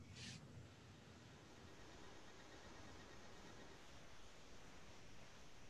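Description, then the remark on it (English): A deck of cards being shuffled, a steady papery rustle that runs unbroken for several seconds, soft, with no voices. “I'm shuffling.”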